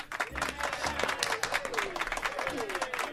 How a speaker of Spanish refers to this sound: Pues ahí está ese pequeño aplauso